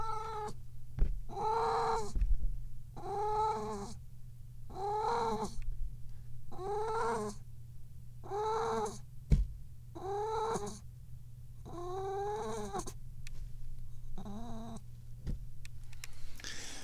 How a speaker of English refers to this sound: Oh, welcome to the Dubious Goals Committee, where we often just listen to crazy kitty sounds.